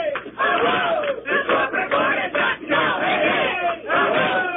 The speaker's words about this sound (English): If you can't tell, we're all shouting, hey, hurry, ho, ho, the corporate board has got to go. There's about three police outside here right now and probably about 30 listeners.